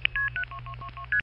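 A quick run of seven touch-tone telephone dialing beeps for a seven-digit phone number, each a short dual-pitched tone, evenly spaced and clear, with a low hum underneath and no talking.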